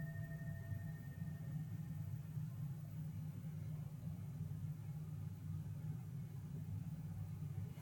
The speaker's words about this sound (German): Ich mache das mit der Stabilität noch einmal, weil eben ein Motorrad vorbeigefahren ist.